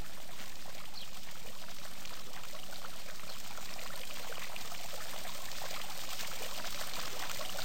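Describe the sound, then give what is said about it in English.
A steady, continuous pour of splashing water from a fountain on a lawn, with a constant bright hiss and no pauses or voices. “Now, climb out of your hammock and make your way back across the lawn to the fountain.”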